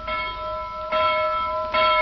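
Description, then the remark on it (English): A town hall bell rings out in three steady, evenly spaced strokes, each a bright metallic clang with long sustained overtones that hum between strikes, no voices present. “Now, woken at last by the out-of-bed sleepyhead, Polly put the kettle on town hall bell.”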